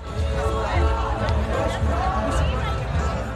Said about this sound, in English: Like the crowd at this rally in Jerusalem, the refusers who signed the letter are deeply mistrustful of the current government. You can hear there the voice of Prime Minister Netanyahu. It's coming from a large screen and the crowd are responding